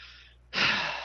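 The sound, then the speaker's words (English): Heavy breathing: a soft, airy exhale fades, then a sudden loud, rushing breath of air follows and lingers. No one speaks. “I think we sat here long enough listening to Fort Max's heavy breathing”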